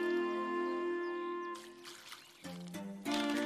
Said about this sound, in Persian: یه روز خوب قشنگ بهاری که صدای جیک جیک گنجیشکا میاد، پت روی تراس خونش داره به گل آب میده.